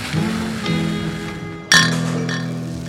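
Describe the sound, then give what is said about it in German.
Beer glasses clink together in a toast in a small beer cellar, a sharp bright chime at the midpoint that rings on briefly, with a softer earlier clink and a steady background hum. “Hey, moin moin und Prost aus unserem kleinen Bierkeller.”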